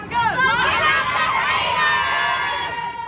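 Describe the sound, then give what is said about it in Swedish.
A crowd of hundreds of fans, mostly young girls, screams and shrieks out a celebrity's best-known quotes together in a loud, sustained high-pitched roar, with overlapping voices rising and falling throughout, continuous. “I ett klipp träffar han hundratals fans, mestadels unga tjejer, som skriker ut hans allra mest kända citat.”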